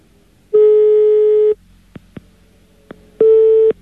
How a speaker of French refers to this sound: Oh, la sonnerie. Oh, la sonnerie. Typique sonnerie belge, écoutez bien.